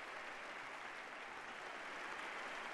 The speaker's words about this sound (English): He has concluded the speech now. We can expect the applause to go on for quite some time. A standing ovation for Pope Francis at the end of a speech that touched in careful ways on many vital issues facing the United States.